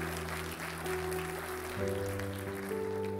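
An audience claps steadily throughout, a dense wash of applause over sustained keyboard chords that shift pitch a couple of times.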